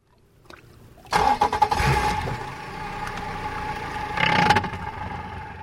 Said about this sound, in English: I hop aboard an outboard